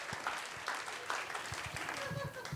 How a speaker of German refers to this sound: Hört auf da zu klatschen! Der fühlt sich bestätigt! Klatsch! Der findet das dann witzig!